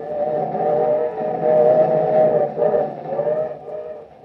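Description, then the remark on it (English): A moving freight car heading west rumbles and rattles steadily while wind rushes past, with a droning, whistling hum on top; the noise swells and dips over a few seconds, and no one speaks. “In a noisy, windy freight car, Joe and Rusty head west.”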